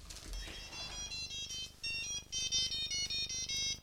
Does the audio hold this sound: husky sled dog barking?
no